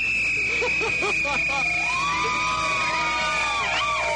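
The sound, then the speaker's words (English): A shrill whistle holds one steady high note for about four seconds, while warbling, sweeping tones and a murmur of voices rise and fall beneath it. “You may blow your whistle.”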